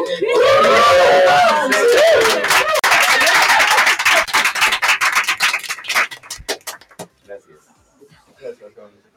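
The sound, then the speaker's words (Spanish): Dense crowd applause for a rondalla, with whoops and shouted cheers at the start, thinning into scattered individual claps that fade out after about seven seconds, leaving faint murmuring. “¡Fuerte el aplauso a la rondalla!”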